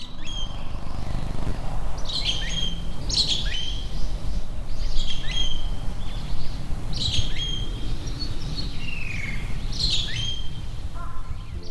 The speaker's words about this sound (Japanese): 美しい、本当にね、こう可愛いんですよ、すごい。これちょっと悪役みたいに言いましたけど、そのことを軒にすれば可愛くて美しい声で鳴く素敵な鳥だなと思うんですけどね